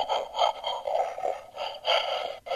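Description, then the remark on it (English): A loud, rough snorting growl from a battery-operated Archie McPhee Emergency Bigfoot call toy, breathy and grainy, pulsing in a few surges over a couple of seconds, alone with no talking. “That's the howl. You have a snort.”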